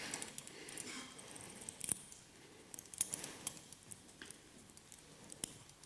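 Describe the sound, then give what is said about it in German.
Quiet metallic scratching and a few sharp little clicks as a paperclip, bent so both ends point upward, works inside a handcuff lock, irregular and fiddly, with no talking. “Ja, sperrt also die Büroklammer im Prinzip wie der Schlüssel.”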